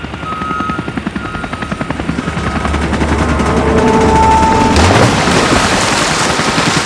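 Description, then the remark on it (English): A helicopter thunders overhead carrying a truck recovered from the water, about to set it down, its rotor chopping in a rapid, steady pulse that grows louder and fuller, with a roaring engine whine layered on top. “We can talk better after the helicopter sets it down and flies away.”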